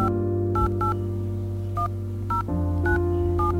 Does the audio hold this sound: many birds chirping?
no